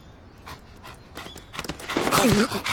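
An old dog pants in quick, breathy bursts, the panting growing louder and more rapid toward the end, where a brief squeaky whine breaks through.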